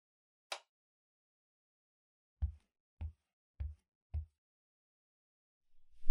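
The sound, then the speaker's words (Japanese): A chair is moved and set down: after a sharp click, four dull, low thumps land at an even pace, followed by a faint low rumble. No one speaks. “電気つけたらそっち行くんで。うん。椅子もお借りしますね。”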